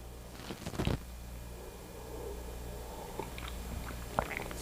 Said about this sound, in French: Ah, bon, je peux-tu prendre une gorgée de café où il est trop chaud?